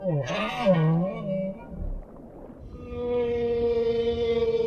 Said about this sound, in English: Listen to me now, and listen to those who sing. You live in a world of sound, created by older, larger males. Humpbacks have been singing these songs for millions of years.